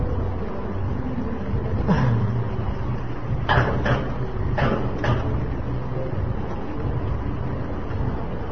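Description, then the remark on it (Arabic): A door is handled with a few short knocks and clunks spread over a couple of seconds, heard against a steady low background rumble with no talking. “شغل الخارجي حتى يضغى على صوت هذا الباب.”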